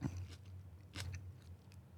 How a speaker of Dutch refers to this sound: Hij neemt nu een hap uit een rode, langwerpige rode peper. Kun je omschrijven wat je proeft?